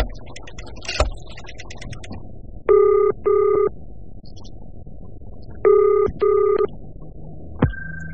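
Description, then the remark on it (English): A few sharp clicks of a phone being dialed with an 11-digit number, then two double-pulse ringing tones, each pair of steady buzzing rings separated by a pause. No one speaks. “Only 11 digits.”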